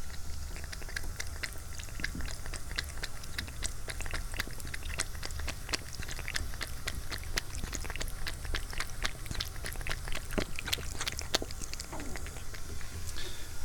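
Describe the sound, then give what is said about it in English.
A pet cat laps water just poured for it in a quick, irregular series of small wet clicks and splashes over a steady low background hum, with no talking. “Let's listen to my cat drink.”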